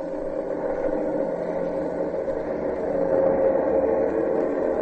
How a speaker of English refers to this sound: As we stand in front of Hangar B, a three-ship formation circles above the landing area.